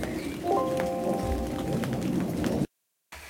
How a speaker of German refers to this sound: Jetzt müssen wir gerade mal, glaube ich, stoppen. Ihr hört gerade den Regen und wir gehen mal nach drin und ihr hört uns gleich sofort weiter.